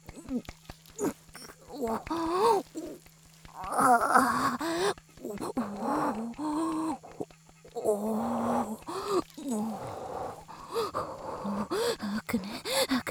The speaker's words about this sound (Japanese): ごめんなさい、あくびします。